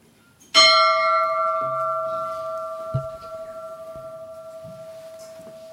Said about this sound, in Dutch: Dus wij starten met het luiden van de bel.